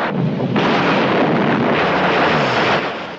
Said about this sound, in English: But the anti-aircraft gunners score a direct hit on the cockpit.